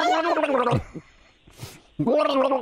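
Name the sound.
gargling water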